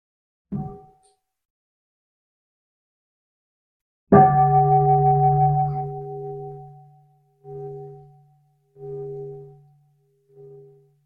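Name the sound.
bell ringing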